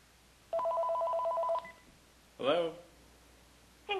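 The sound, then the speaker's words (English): A telephone rings once with a warbling electronic trill lasting about a second, followed by a short burst of a voice speaking and another brief voice at the end. “I wonder if you guys have ever got this phone call.”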